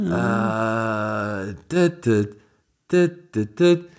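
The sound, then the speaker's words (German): A voice imitates the Skype ringtone, holding one long sustained hummed note, then a pause and a run of short, bouncy vocal bursts in a jingle-like rhythm. “Das ist der Skype-Klingelton.”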